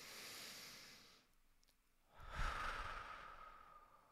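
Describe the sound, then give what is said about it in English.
A slow, deep relaxation breath taken while looking at a lampshade: a long airy inhale, a brief held pause, then a fuller, louder exhale that trails off gradually. No talking. “And I'm doing that by looking at it and then breathing really deeply.”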